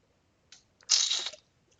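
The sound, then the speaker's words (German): A couple of quick clicks, then a short, bright hissing rush as a chilled bottle of white wine from the fridge is opened and poured into a glass, fairly quiet, with no voices. “Ich nehme eine Flasche Iwan aus dem Kühlschrank und fülle mir ein Glas voll ab.”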